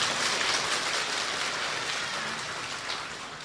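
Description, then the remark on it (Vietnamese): A crowd at a morning Buddhist summer retreat gathering applauds to thank the retreat organizers and practitioners, in a steady, dense wash of clapping that holds evenly from start to finish, fairly loud, with no voices over it. “Chúng ta xin thành kính niệm ơn ban chức sự trường hạ, chúng ta thành kính niệm ơn các hành giả an cư, chúng ta có một tràng mưa hoa để tri ân.”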